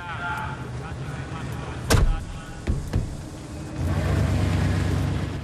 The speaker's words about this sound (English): A limousine stops on a jetty. Chai Wan Bay, Hong Kong. Johnny Cage dumps his luggage on the ground and the car moves off.